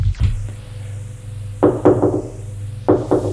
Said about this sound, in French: On frappe à la porte. Entrez.